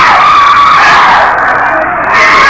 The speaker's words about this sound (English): They are screaming because they have to go, and they don't want to go. They don't want to lose their victims.